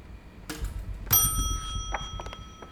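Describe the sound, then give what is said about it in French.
Little grelot bells jingle on the shoes of Souris Chérie, the mouse in a children's story, a bright ringing burst that hangs in the air, followed by a few lighter, scattered tinkles over a low rumble. “Elle met sa robe à pois, son manteau à carreaux, son foulard à fleurs, ses chaussures à grelots et son chapeau ciel étoilé pour aller au bal des souris.”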